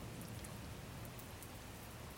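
Steady rain falls continuously on an umbrella, a dense, even hiss of drops pattering with no pauses, moderately loud, with no voices present.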